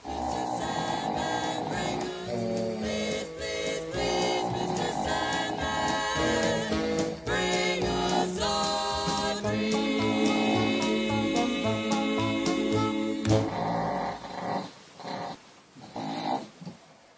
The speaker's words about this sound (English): Why did you record your dog snoring rather than you or whoever sleeps with you snoring? You were clearly not listening because there was me snoring, there was yes, me talking. But you concentrated on the dog.